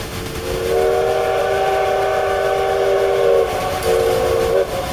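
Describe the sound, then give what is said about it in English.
A steam train whistle blows one long, loud, steady blast lasting nearly three seconds, then sounds a second shorter toot, over a rumbling background of the moving train. “Go make sure that Leonard is ready to run the brakes. Just blow the whistle.”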